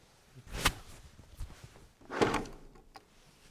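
A door being locked by sticking a blue bolt into it so it can't swing, secured by dropping pins: a sharp clunk, a softer knock, then a longer scraping slide and a final faint click, like a bolt being pushed home. No one speaks.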